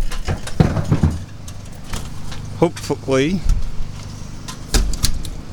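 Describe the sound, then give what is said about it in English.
A door opening onto a deck opens with a series of sharp latch clicks and rattles, a brief rising squeak partway through, and a low rumble of wind underneath before a final clunk. “Hopefully my cat is still sleeping and didn't hear the door open.”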